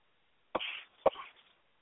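Two sharp coughs about half a second apart, each a sudden burst with a short raspy tail, followed by quiet.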